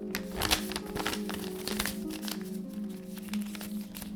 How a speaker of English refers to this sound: Step 1. Fold the paper in half 4 times, then unfold it completely.